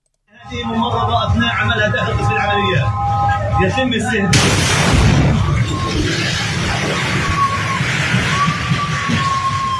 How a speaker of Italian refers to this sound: Questo è uno dei video terribili del momento dell'esplosione, lo ha diffuso Damiano Rizzi, psicoterapeuta, presidente e fondatore di Sole Terre, ONG che lavora da oltre un anno in Cisgiordania